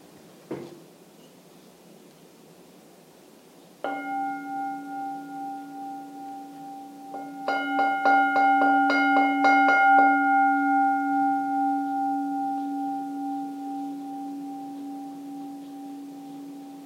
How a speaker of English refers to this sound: And I'll now ring the gong.